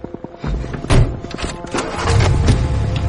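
A heavy thump like a car door, then a car starts up and a low engine rumble builds steadily as it drives away down a dirt path, with a few scattered knocks along the way.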